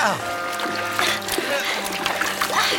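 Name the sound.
water splashing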